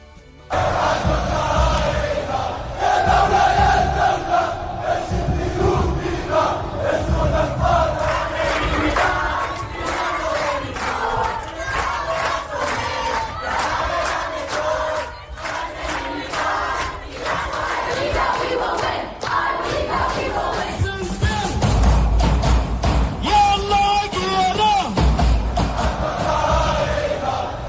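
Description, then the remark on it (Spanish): Large crowds at protest demonstrations in various countries around the world shout and chant together in loud, rhythmic bursts, voices rising and falling in unison with a steady roar underneath throughout, without a break. “Son voces de manifestaciones en distintos países del mundo.”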